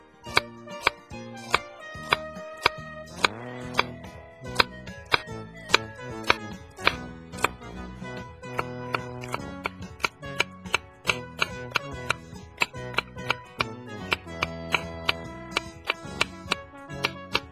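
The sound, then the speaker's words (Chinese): A knife chops green onions on a cutting board for steamed eggs, in a steady, quick rhythm of crisp taps that continue without pause and with no voices present. “那接下来的准备就是我们要准备葱花。”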